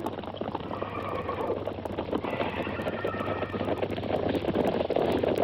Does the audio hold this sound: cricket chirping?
no